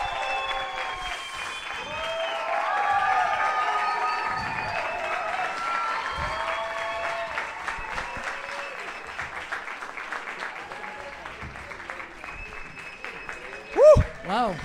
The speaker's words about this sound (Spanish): So, sin más preámbulo, denle un fuerte aplauso